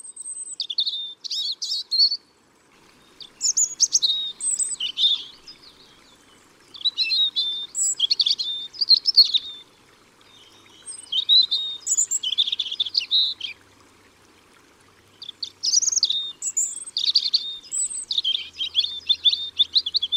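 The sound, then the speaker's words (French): A European robin sings alone in a series of high, thin warbling phrases, each a couple of seconds long and separated by short pauses, clear with no one talking. “C'est le rouge-gorge familier.”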